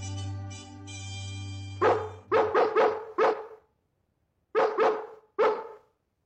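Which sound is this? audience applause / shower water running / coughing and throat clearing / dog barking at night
dog barking at night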